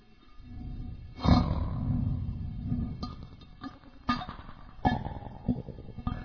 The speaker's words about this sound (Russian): Я включил эффекты. Эко. Флейнджер.